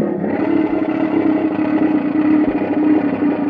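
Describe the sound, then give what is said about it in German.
A sound-effect instrument imitating a lion's roar gives a loud, continuous rasping growl, rough and buzzy, holding a steady low pitch for several seconds with no voices. “Es klingt wie ein Löwe, der brüllt ungefähr so.”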